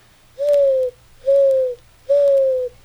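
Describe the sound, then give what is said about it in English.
A person imitates a dove's coo with three smooth, steady hoots, each about half a second long and evenly spaced, sounding clear with no talking. “Dove.”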